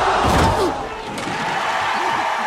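A heavy body, a female boxer knocked down by her opponent, slams onto a boxing ring canvas with a loud thud near the start, followed by a dense, noisy background that continues for a couple of seconds.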